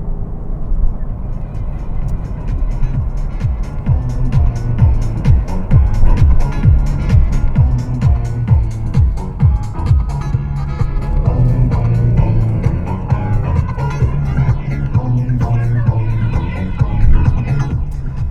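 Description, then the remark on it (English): An all-wheel drive car's engine drones steadily with a low throbbing hum that rises and falls slightly as the car drives on and corners. The car understeers on roads with small, very icy patches. “First time in a very long time that I've experienced understeer with this all-wheel drive car.”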